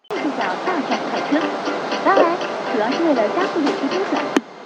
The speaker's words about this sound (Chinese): 欢迎乘坐地铁九号线列车，列车开往六里桥站、七里庄站方向，终点站是郭公庄站。